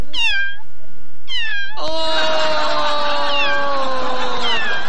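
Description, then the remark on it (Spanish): A kitten meows: two short, high-pitched mews, then a longer, drawn-out cry that wavers and fades near the end. No one is talking. “Chiquillo, se perdió un gatito. Ahí anda.”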